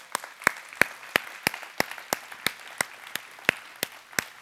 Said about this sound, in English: Praise God. Give the Lord a big clap.